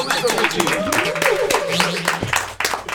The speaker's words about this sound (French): Un tonnerre d'applaudissements, s'il vous plaît.